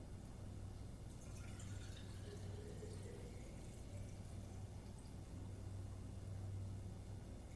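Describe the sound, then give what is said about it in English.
Water is drawn from a vessel with soft, continuous sloshing and trickling over a steady low hum. The sound is fairly quiet, and no one speaks. “We'll take water out of this vessel here.”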